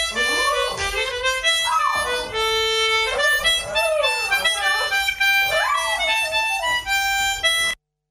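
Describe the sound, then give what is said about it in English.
A dog whines and howls in long, wavering, rising and falling cries over steady harmonica chords played by its owner. Both play loudly and continuously for several seconds, then stop abruptly. “My dog either sings along or is pleading with me to stop.”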